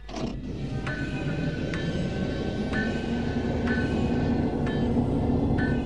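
water pumps running

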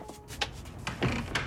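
apartment door closing

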